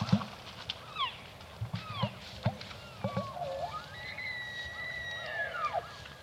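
elk calling

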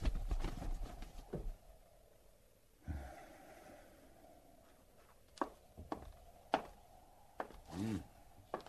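horses' hooves clip-clopping

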